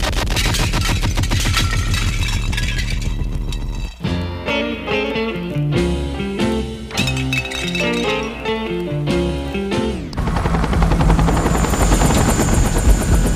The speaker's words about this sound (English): I remember the helicopter coming in onto his property, and he'd given me the GPS coordinates to give to the pilot, the helicopter. And the helicopter came down, and we discussed the helicopter and what kind it was